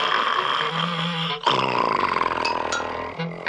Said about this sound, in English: Get to sleep with … snoring like that.